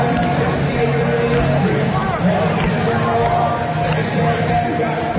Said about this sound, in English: Are they singing? I can't tell if they were booing. There's booing.